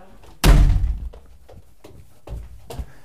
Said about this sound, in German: Jetzt muss ich ganz kurz die Tür aufmachen. Dankeschön.